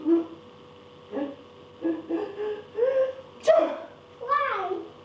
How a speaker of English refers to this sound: Sneezes all the time.